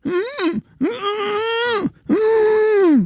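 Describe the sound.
A person imitates how they lie in bed trying to scream for help while dreaming, with three muffled, strained groans, each a sustained tonal moan with brief pauses between, fairly loud and without words.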